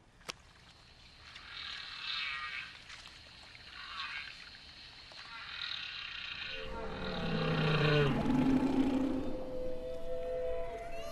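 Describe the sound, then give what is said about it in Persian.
Underwater recording, made with an underwater microphone in the Pacific Ocean near Hawaii, of humpback whale song: long, sliding moans and higher wavering calls, loud and resonant, rising over a hissy ocean background with no talking. “ما نهنگ گوش پشت هوایی رو فقط با گوش دادن به آوازهاشون پیدا کردیم.”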